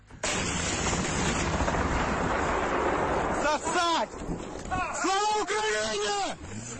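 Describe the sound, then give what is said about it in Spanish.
On a village road, four Ukrainian militiamen fire a grenade launcher at a Russian tank with a sudden, loud blast that rolls on as a rough outdoor roar for several seconds, followed by the men shouting "Long live Ukraine" excitedly as they run to hide. “Pues imagínense ustedes una carretera de pueblo, cuatro milicianos ucranianos con un lanzagranadas, y cuando ven un tanque ruso disparan y salen corriendo.”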